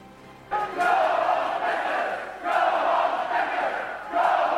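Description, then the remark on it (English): A crowd of protesters against Spencer chanting loudly in unison at his campus speech, overpowering it, the shouted phrases rising in repeated surges roughly every two seconds, with a dense wash of many voices between bursts. “Spencer's speech overpowered by the chanting of those against him.”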